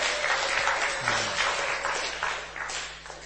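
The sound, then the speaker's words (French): An audience applauding together, a dense wash of many hands clapping at a steady, fairly loud level that tapers slightly toward the end, with no voices standing out. “Est-ce qu'on peut applaudir pour les rois des rois? You can clap for the König, the König.”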